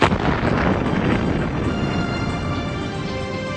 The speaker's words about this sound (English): On Sunday, October 23, 1983, a bomb-laden Mercedes truck entered the Marine headquarters near Beirut Airport, passed several checkpoints, and exploded inside.